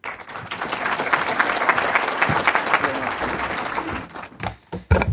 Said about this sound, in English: Thank you very much for the applause.